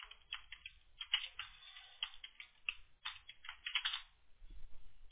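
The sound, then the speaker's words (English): Quick, irregular clicking of keys as someone types a search for painting contractors on a computer keyboard, fairly quiet, with a soft low rumble underneath and no voices. “And what I'd like to do right now is just see if you're showing up organically somehow if I type in painting contractors.”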